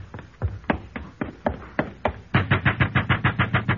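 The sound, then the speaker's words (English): Knocking on Hillel's door at sunset on the eve of the Sabbath: several uneven, spaced-out knocks, then a quick, steady burst of about a dozen louder raps. No voices are heard. “It will be as easy to ruffle his temper as to knock on his door.”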